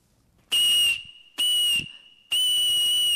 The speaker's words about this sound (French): Des sifflets, par exemple, comme des phalanges de rennes dont voici, attention à vos oreilles, la douce mélodie.